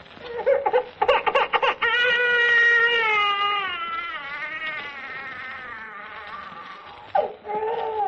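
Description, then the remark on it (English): An expert crier weeps loudly into the microphone in a studio: choppy sobs at first, then a long, wavering, high-pitched wail that trails off, followed by a sharp gasp and another whimpering cry. “Either by having an expert crier weep into the mic and flood the studio with tears, like this.”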